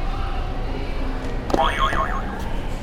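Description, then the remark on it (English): A toy buzzer is pressed, setting off a short, bright electronic warbling tone that wobbles up and down for about a second over background noise. “Can you hit another buzzer?”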